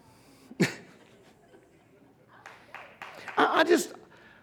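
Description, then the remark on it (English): A sharp sneeze bursts out near the start, followed by a few seconds of quieter background noise and then a louder flurry of vocal sounds. “That sneeze is my cue to move on past that subject.”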